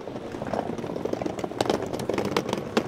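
Tourists' rolling suitcase wheels clatter over paving on the streets of Lisbon in summer in a steady run of sharp, irregular clicks above a constant low rumble, moderately loud, with no voices.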